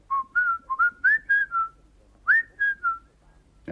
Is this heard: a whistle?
yes